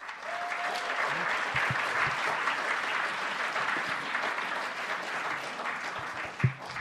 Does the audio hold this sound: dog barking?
no